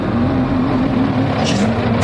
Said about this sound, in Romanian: Un motor, un camion.